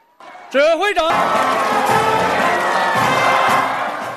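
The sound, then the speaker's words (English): A single wavering shout rings out, then a large crowd waving Chinese flags at a Chinese space launch site erupts into loud, sustained cheering, a dense roar of many voices that holds steady for several seconds before easing slightly. “Minutes before blastoff, mission commander Zhu Yangzhu formally reports to senior officials that the crew is ready to fly as crowds look on waving Chinese flags.”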